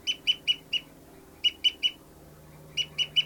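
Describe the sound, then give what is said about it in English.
A bird's fight call as bird 59 flies: three bursts of three or four sharp, high-pitched squawks in quick succession, separated by short pauses, over a faint low background hum. “Fight call by 59's flying, oh, that was 273 flying around.”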